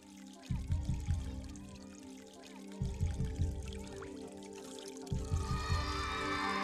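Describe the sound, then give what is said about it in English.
Water pours into a container in three rhythmic surges about two seconds apart, with a steady splashing flow continuing between them, moderately loud, as a woman collects water with her children. “She comes here every day with her children to collect water.”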